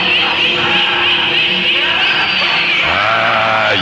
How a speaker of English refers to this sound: The shrieks, the laughter. Worse lies beyond the gates, far worse.